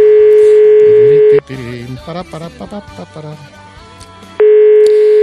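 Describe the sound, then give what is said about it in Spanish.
A loud, steady ringback tone of a call to a mobile phone sounds twice, each burst about a second and a half long, with people talking in the pause between rings and no one picking up. “No sé si podíamos ir marcando, a ver si le suena el móvil. Voy a probar la llamada.”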